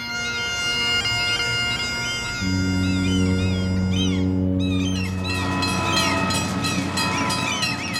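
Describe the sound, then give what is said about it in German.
A Rocky Mountaineer passenger train with blue, white and gold carriages sits at a station platform in Vancouver, Canada, in the early morning, its engine droning steadily while a loud, sustained horn-like chord joins partway through, with shifting high-pitched squeals and tones above the constant hum. “Auf dem Bahnsteig stehen die blau-weiß-goldenen Waggons des Rocky Mountaineer.”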